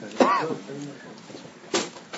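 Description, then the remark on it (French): A door is pulled shut with a single short thud partway through, during a French-language lesson about the Messiah, while a man's voice speaks over a faint background murmur. “ferme la porte, s'il vous plaît, la porte, là, devant, là. Merci. Voilà.”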